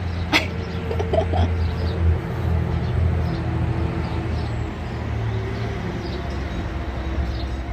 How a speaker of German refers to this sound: Ich lasse mal kurz den LKW vorbeifahren. Den Traktor.